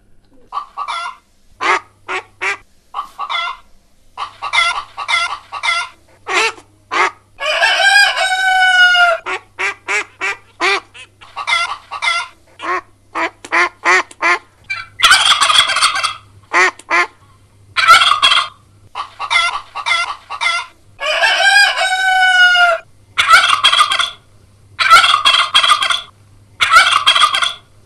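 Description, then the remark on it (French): Farmyard poultry cluck and gobble in dense, overlapping bursts, turkeys rattling out loud gobbles among busy hens, with a low hum underneath and no talking. “Pilou sort de la grange et va dans la basse-cour.”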